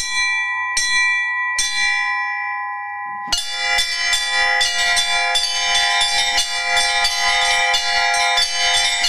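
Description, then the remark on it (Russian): Church bells ring out loud: three spaced single strikes, then a dense, rapid peal of several bells overlapping in a rhythmic, clanging pattern, played by a bell ringer. No voices. “Но теперь колокола привлекают его больше, чем гитара.”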